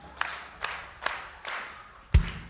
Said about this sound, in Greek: Παλαμάκια, πόδια στο δάπεδο. Παλαμάκια, δάπεδο. Κι όταν θα πω stop, θα σταματήσει.